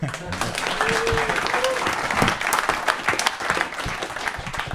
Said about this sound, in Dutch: Een applaus.